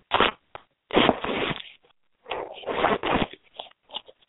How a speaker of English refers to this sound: There. There's somebody rattling their phones.